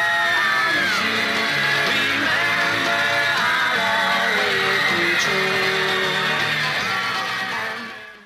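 A dense, continuous wall of high-pitched screaming from a large crowd of fans, loud and close, with overlapping shrieks and yells sustained throughout before tapering at the end.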